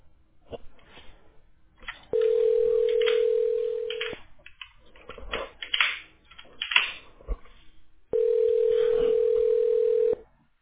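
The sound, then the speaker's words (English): A telephone ringback tone sounds twice, each a steady, even two-second hum, separated by a four-second pause filled with soft, irregular clattering noise, on a call to Oak Tree Landscape. “Thank you for calling Oak Tree Landscape.”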